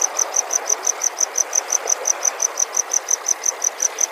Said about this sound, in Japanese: ということで明治時代までキリギリスと呼ばれていた虫かまどコオロギの声をお聞きください。